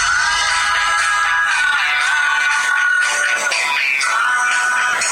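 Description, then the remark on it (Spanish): A music video of a band plays from a Windows Phone 7 phone's speaker, a steady stretch of tinny, bright music with a sustained melody line and little bass, loud and continuous with no one talking. “Aquí tengo un video de un grupo que me gusta mucho.”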